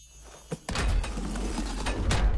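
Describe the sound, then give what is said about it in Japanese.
A hidden door in a video game opens: a soft click, then a heavy rumbling, grinding slide that sustains loudly for about two seconds, with no voices. “これは、お、隠し扉か。”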